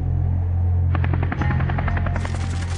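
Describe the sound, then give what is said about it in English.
A helicopter drones steadily, its engine humming low, then the rotor blades start chopping in a fast, rhythmic thump that keeps going to the end: Zia returning by helicopter to Bahawalpur Air Base in the early afternoon of 17 August 1988. “Zia returns by helicopter and then boards his personal transport, a specially adapted Lockheed Hercules C-130, codenamed PAC-1.”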